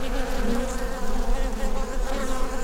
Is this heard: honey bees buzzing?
yes